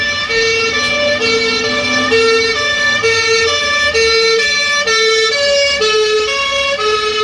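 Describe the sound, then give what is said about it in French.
A loud ambulance siren alternates steadily between two tones as it passes, staying strong for the whole stretch, with a faint rumble of traffic underneath and no voices. “Par exemple, quand on entend la sirène d'une ambulance qui passe devant nous, on a l'impression qu'elle passe des aigus aux graves, alors que bien sûr, il n'y a aucune variation.”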